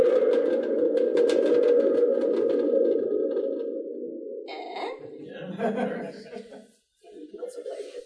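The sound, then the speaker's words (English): A thunder tube, made of wood and canvas and built for sound effects, rumbles with a steady, warbling metallic drone that holds for several seconds and slowly fades, followed by quieter, scattered sounds. “This is a thunder tube.”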